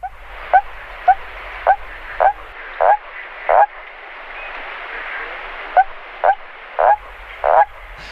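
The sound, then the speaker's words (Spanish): Two series of short, clipped calls of the common toad, a very rough-skinned toad, about ten calls in all, evenly spaced and growing louder within each run, heard alone over a steady background hiss. “Y así suena el sapo común, mirad.”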